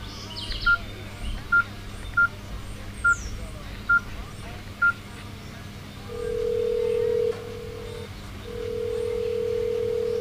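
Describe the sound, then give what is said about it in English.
Six short, evenly spaced phone keypad beeps dial a number, followed by a steady ringing tone that pauses and then rings again, over a low background hum with faint bird chirps. “Look, I think we should call him.”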